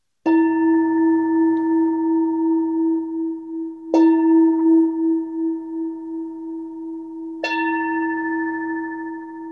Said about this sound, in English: Emiko will ring the bell 3 times to start and 1 to end. In my tradition, that's how it goes. All right, here we go. 3 bells.